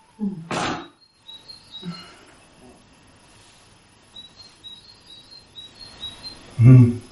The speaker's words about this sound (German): Hör die Vögel singen.